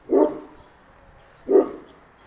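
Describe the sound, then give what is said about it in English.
An English Golden Retriever barks twice, loud, with the two deep woofs spaced about a second and a half apart and quiet in between. “Wendy spoke about her dog, Sophie, who's an English Golden”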